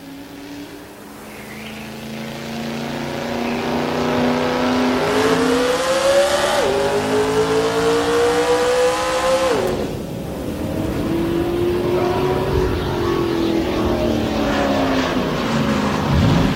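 A car engine revs loudly, its pitch climbing in long pulls, dropping sharply, then rising again over a steady rumble, with no voices.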